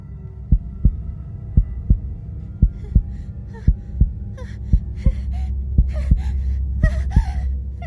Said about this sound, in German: eigener Herzschlag und ihr heftiges Atmen hallen laut im Inneren ihres Kopfes wieder. Sie hört das Rauschen des Blutes, das mit hoher Geschwindigkeit durch ihre Venen schießt und ein schrilles Klingeln in den Ohren.